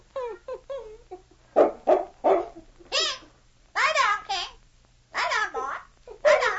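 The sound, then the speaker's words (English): A captain's parrot, taught to call out to the dog King, calls in a string of short, voice-like squawks and chatter, some sounding like barks, fairly loud with brief pauses between bursts. “I told you that bird had a memory.”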